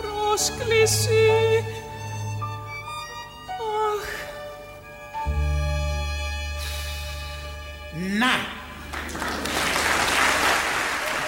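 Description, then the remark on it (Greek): A stretch of melodic music with a sung line gives way, in the last few seconds, to a burst of loud, dense applause from many hands clapping together. “Χειροκρότημα, Παναγιώτη μου, χειροκρότημα.”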